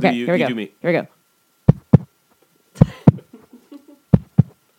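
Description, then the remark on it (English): A brief burst of voice opens, then rhythmic low thumping like a heartbeat: three close paired beats in a steady lub-dub pattern, fairly loud, with faint scraping between them. “Sounds like a heartbeat.”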